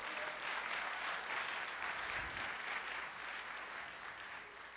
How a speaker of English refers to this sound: PJ, why don't you come up and start playing something, because that will give people hope. Give PJ a round of applause. He's a nice man.